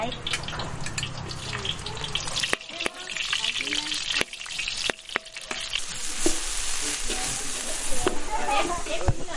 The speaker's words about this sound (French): Voilà, c'est les grillons qui sont en train de cuire.